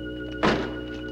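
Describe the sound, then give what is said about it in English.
A man following a coffin into a funeral parlor slides shut a heavy metal security gate behind him, one loud, dull thunk that quickly fades, set against a steady electrical hum with no voices. “He follows the coffin inside and slides shut a heavy metal security gate behind him.”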